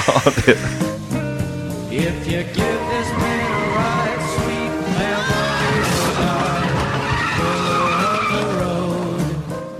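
A loud, busy quiz-show jingle known as "motorblocket" blends with a revving race car engine and screeching, skidding tires, with rising and falling engine pitches throughout.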